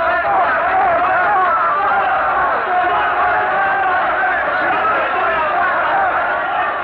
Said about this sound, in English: Their frenzied, hysterical shouts are filling the square with a mighty roar of fury, and they're stoning Savonarola now, all turned against the man that they once loved and revered.